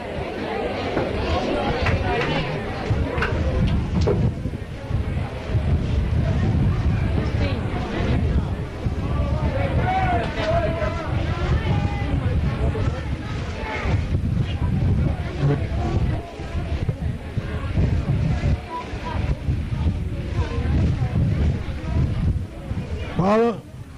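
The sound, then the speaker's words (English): Steady, dense hiss of a cool rain falling outdoors with gusty wind rumbling throughout, while several voices talk and murmur beneath the continuous downpour. “You have shut up with the rain falling. You can't hear.”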